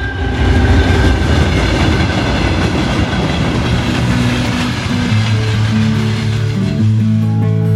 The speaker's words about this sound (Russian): Пассажирский поезд номер 129 Красноярск-Анапа прибыл на первую платформу первого пути. Нумерация вагонов начинается с головы состава.